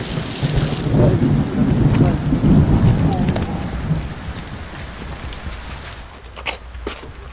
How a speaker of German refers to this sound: Komm. Kurz den Regen abwarten.